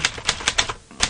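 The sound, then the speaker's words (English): Rapid keyboard typing as someone types a word down, a quick run of sharp clicky keystrokes in an uneven rhythm with a brief pause near the end, no voices. “I'm just typing it down.”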